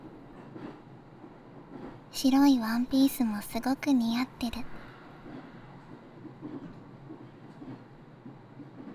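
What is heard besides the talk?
train running on rails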